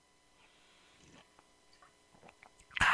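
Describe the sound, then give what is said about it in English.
Someone takes a sip of a drink at the mic during a WRVA news radio show: faint mouth clicks and small swallowing sounds, then a brief, loud slurp right at the end. No one speaks. “Take a sip.”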